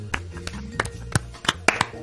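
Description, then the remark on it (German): A series of sharp hand claps at an irregular, loose rhythm, about seven or eight in all, fairly soft, over a low steady hum. “Ich klatsche. Ich weiß nicht, ob man es hört, aber...”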